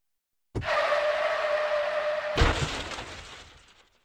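Tires screech loudly for about two seconds as a car brakes hard, then a sudden crash as the car hits a person who appeared on the road, denting the bumper and hood, with shattering glass that scatters and fades out. Loud, no voices.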